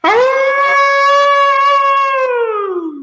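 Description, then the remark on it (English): A person imitates a hound dog's howl in one long, loud, sustained call lasting about three seconds, rising at the start and sliding down in pitch as it fades out. “this is where you get to close us out with your best old hound dog howl.”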